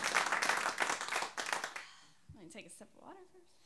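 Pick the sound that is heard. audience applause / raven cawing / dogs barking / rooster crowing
audience applause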